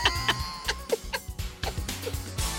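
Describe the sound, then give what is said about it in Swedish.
A human voice mimics the two-syllable begging call of a 3-4 week old young magpie with a string of short, harsh, squawky two-part chirps in quick irregular succession, fairly loud, with no other talk. “Det är så jävla likt. Det är som en skata är i soffan här nu med oss.”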